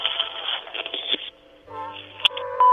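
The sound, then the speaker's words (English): Muffled, telephone-quality noise gives way to a steady electronic tone with a low hum beneath it, broken by a sharp click, before a brief answering machine beep sounds at the end. “After the beep, leave a message.”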